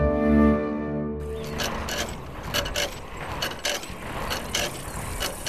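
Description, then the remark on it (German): A steady, harmonic engine-like hum gives way after about a second to a continuous mechanical rattle and clatter with sharp ticking bursts: the Sandmännchen arriving on a scooter in the Sandmännchen children's programme, running along at a moderate level. “Mit dem Roller.”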